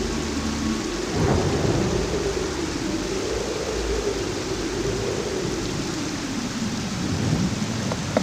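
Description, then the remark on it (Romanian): Heavy rain pours down in a steady, dense roar while deep thunder rumbles and rolls continuously underneath, a loud storm with no voices. “Furtuna creștea în tărie până ce se părea că apa vine din ceruri în torente puternice.”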